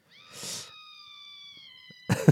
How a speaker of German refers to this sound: Okay, ist einfach nur ein Schrei.